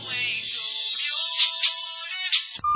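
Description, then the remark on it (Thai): A mobile phone rings with a bright, electronic melodic ringtone that plays steadily for a couple of seconds, clear with no voices, then cuts off abruptly. “หลายชั่วโมงผ่านไปโดยไม่มีใครใส่ใจเวลามีแต่สรรพสำเนียงแห่งดนตรีการและเสียงพูดคุยหัวเราะหยอกล้อโทรศัพท์มือถือของลานดาวก็ดังขึ้น”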